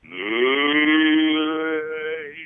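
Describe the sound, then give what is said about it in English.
A person's voice imitates a cow's moo, one long sustained lowing tone held steady for a couple of seconds, loud, tapering slightly at the end. “Moo. Do it.”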